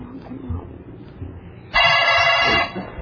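A single loud burst of telephone ringing, bright and buzzy, lasting under a second, rising over faint background voices and room noise before and after.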